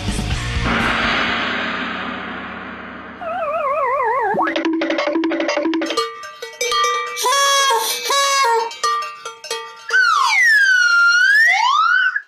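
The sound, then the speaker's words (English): A loud slide whistle swoops up and down in smooth arcs at the end of a busy run of warbling, pulsing electronic tones, with no one speaking. “Never gets old, the slide whistle, does it?”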